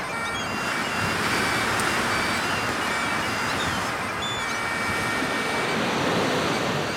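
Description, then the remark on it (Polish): Wind on Scottish sea cliffs above the ocean blows in a steady, unbroken roar for the whole stretch, loud and full-bodied, with faint thin high tones flickering now and then above it. No one speaks. “Czyli bezmiar oceanu, fish and chips, kobzy, wrzosowiska i wiatr. Dokładnie to, co teraz słychać.”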